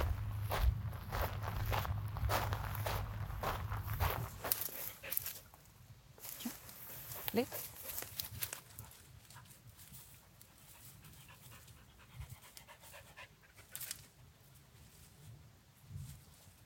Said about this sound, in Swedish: går ut för att se hur det går för sökhunden Breeze och teamet.